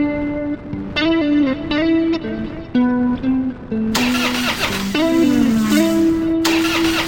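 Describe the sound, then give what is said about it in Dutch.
The engine of a new car that still has to be run in coughs into life and runs unevenly, its droning pitch lurching up and down in jerky steps, loud with a harsher burst midway and no one speaking. “Ja, dat is die ook, maar de motor moet nog een beetje inkomen.”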